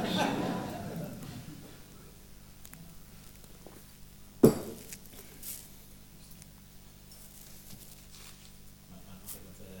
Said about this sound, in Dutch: Zo, een slokje water.